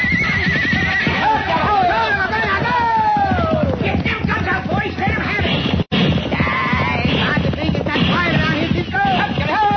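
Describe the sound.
Horses whinny loudly and repeatedly as riders wheel their mounts in a Cisco Kid western drama, shrill sweeping neighs over a steady clatter of clip-clopping hooves, with a brief sharp break midway and voices faintly mixed in.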